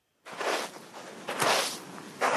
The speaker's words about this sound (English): The sound of footsteps on sand, not in the desert or on a beach, but in the middle of Italy's longest and most important river, the Po.